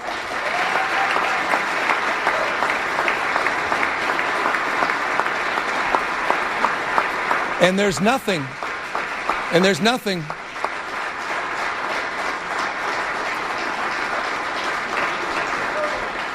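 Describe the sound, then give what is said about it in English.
Long, sustained applause from a large crowd giving a standing ovation after an address to the California State Assembly, filling the whole stretch at steady volume, with a couple of sharp rising whistles or cheers cutting through midway. “That was a standing ovation and long, long applause.”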